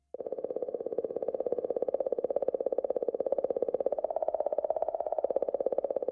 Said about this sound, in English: You're listening to the sound that a comet makes. That mysterious clicking comes from Comet 67P out there in the middle of the solar system with the Philae probe riding right on top.